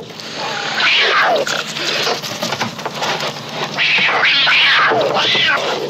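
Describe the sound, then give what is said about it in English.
A cat, shoved through a hole in a wall, yowls loudly as it leaps out at a man, in several drawn-out, wavering cries rising and falling in pitch, with a brief pause between bursts and no talking. “Someone shoves a cat through a hole in a wall, like, aggressively. And the cat leaps at him from the hole in the wall, as it should do.”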